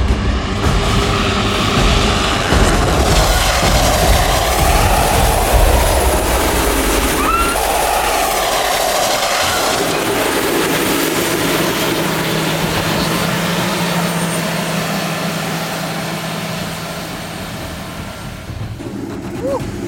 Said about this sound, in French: Ressentir comme nous les jets, parce que quand ils freinent, bah c'est 57 tonnes qui freinent en 15 mètres, c'est énorme. D'ailleurs, on a vu ça a dérapé, c'est hyper impressionnant de l'intérieur.